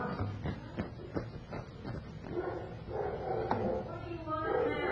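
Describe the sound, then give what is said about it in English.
A dog barks several times in quick, sharp bursts, with one more bark later on, over a steady background of indistinct voices and room noise. “Oh, that darn dog is really fouling us up.”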